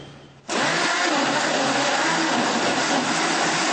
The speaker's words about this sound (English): You can put a little sugar, you know, like 1 tablespoon. It depends on how sweet you want. And you blend it. Like a half of a mug of soy milk.